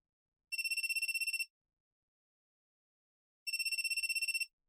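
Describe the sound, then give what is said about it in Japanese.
A phone ringtone for an incoming call from the speaker's company trills in two bursts, each a rapid, bright electronic warble lasting about a second, separated by a pause of silence. Clear, with no voices. “あら、お電話ですね。あ、会社からです。”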